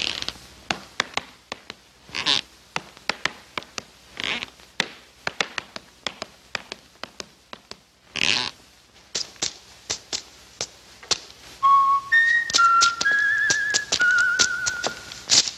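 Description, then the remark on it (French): Gene Kelly's tap dancing: rapid, crisp tap-dance clicks in uneven rhythm, broken by short bursts of rustling newspaper, then a squeaky floorboard creaking in drawn-out, whining tones toward the end. No talking. “Des claquettes, une latte de parquet, une feuille de journal.”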